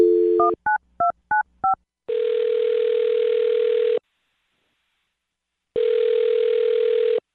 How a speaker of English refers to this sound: Well, I'll dial her phone number right now then, see if we can get her on the phone and find out, okay?